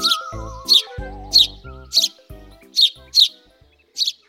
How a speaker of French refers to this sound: Et moi, et moi !» crient Mélie et Mélo, les moineaux.